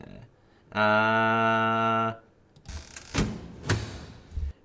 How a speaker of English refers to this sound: Yeah, we're closing the door.